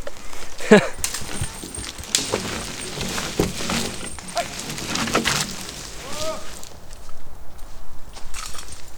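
A working horse plods along a forest track, its hooves thudding in a steady, uneven walking rhythm, with soft rustling and a brief faint vocal sound.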